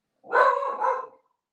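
A dog barks twice in quick succession at the back door of a home, loud, a short doubled woof with no other sounds around it.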